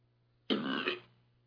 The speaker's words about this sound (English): Someone burp? Yeah. Sorry.